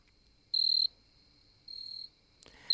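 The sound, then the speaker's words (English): Insect songs: a steady high-pitched drone underlies loud bursts of shrill chirping trills, two long pulses followed by a sharper clicking burst near the end, with no voices. “By late July, in most parts of North America, the air is filled with an orchestra of insect calls.”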